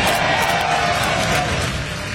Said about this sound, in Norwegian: Dette lyd fra rakettoppskytingen i USA i natt. Det gikk bra og ute i verdensrommet.